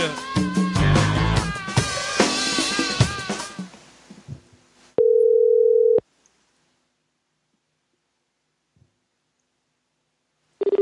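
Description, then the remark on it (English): A burst of music fades out, then a telephone ringing tone sounds on the line during a call to a petrol station: a steady one-second electronic tone, a long silent pause, and the next tone just beginning. “They're going to pick up the phone because they've only got one clerk or something.”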